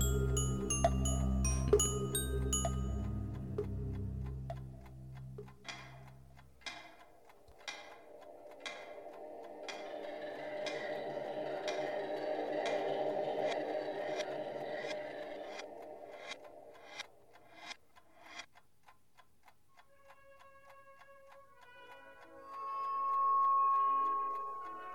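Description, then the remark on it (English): A clock ticks in a steady, even rhythm, the sharp clicks standing out over a low humming drone and some brief tonal sounds near the end. No one speaks. “Sir, the clock isn't for sale.”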